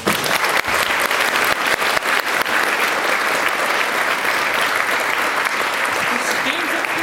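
Steady, dense applause from an audience, a continuous crackle of many hands clapping at an even loudness for several seconds without a break.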